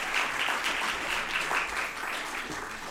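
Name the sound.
audience applauding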